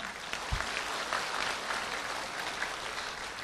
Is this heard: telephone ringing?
no